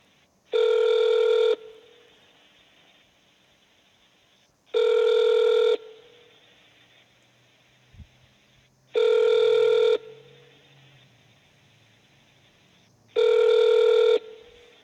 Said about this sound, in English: Connecting you to the office of Senator. Maria Cantwell. Dialing.